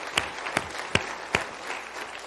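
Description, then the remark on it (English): Steady applause from an audience giving the Lord a hand during a sermon, a broad hiss of many hands clapping together, with a few sharper claps standing out roughly every half second. No voices are heard over it. “Can we give the Lord a hand tonight?”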